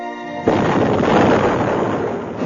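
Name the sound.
explosion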